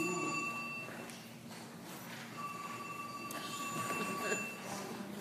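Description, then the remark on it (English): A mobile phone rings with a steady electronic tone that cuts in and out, fairly quiet against a low rumbling background, with no one speaking. “Not me. Phone's off.”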